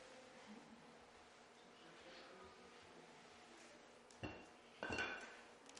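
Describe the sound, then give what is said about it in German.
A glass brought along for a sermon is set down on a hard surface near the end, giving a short knock and then a brighter clink with a brief ringing tone, after several seconds of quiet background noise. “Ein Glas”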